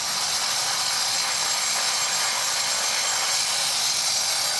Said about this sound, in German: Baustellenlärm. Hier sind wir mal wieder bei der Atmo.